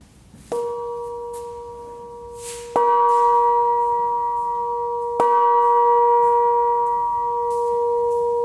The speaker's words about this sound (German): Wir haben hier eine Glocke, die wurde gegossen für die Landesgartenschau in Apolda. Die war aufgehangen im in Gottes Gartenhaus. Und jetzt darf die bei uns hängen und unseren Eingang zieren.